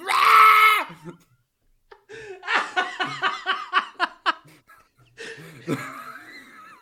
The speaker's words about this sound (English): I feel like our impression of each other would just be yelling louder. Just an amorphous blob of screaming.